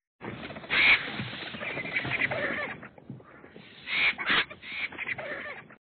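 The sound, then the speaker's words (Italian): A flock of about a hundred marabou storks descending by a river, harsh squawking calls overlapping with bursts of flapping wings, dense, swelling at the start and again near the end. “Infatti, un centinaio di quei funebri uccelli del sacro fiume calavano, starnazzando giocosamente le ali, posandosi sui cadaveri.”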